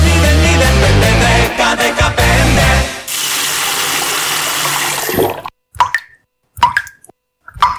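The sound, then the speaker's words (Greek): Loud music gives way to a steady hiss of water running from a tap for a couple of seconds, then the flow stops and a few separate drips or plops fall into near silence. “Μην κάνεις πως δεν τρέχει τίποτα.”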